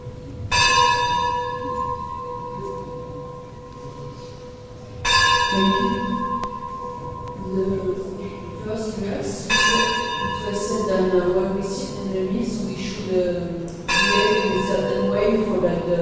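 A temple bell rings out four times at steady intervals, each strike sharp and resonant with a long shimmering decay, while a voice murmurs faintly underneath throughout.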